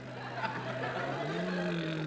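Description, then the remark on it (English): A voice imitates a motor car engine, standing in for a newly ordered 12 horsepower convertible, with a steady, buzzing drone that swings upward in pitch partway through, held continuously at moderate loudness for about two seconds. “No, I've just ordered a new Super Splon Reversal Centipod 12 horsepower convertible. I was only making that noise until it arrived.”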